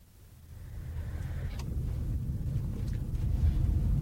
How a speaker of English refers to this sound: Traffic's so noisy. There. Oh, that's better. It's busy.